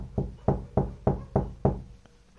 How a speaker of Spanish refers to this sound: Pasó una media hora y nos tocan la puerta.